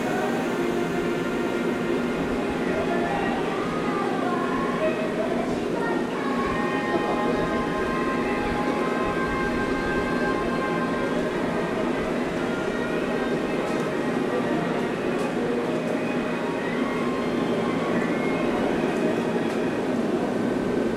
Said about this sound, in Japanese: お待たせいたしました。臨時電車の快速ボイジャートレインみのり2号大月行きが発車いたします。閉まるドアにご注意ください。扉が閉まります。